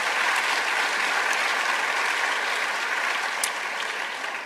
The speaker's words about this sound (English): Folks, a big, big round of applause for our panelists.